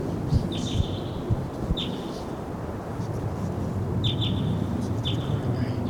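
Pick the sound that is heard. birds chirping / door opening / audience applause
birds chirping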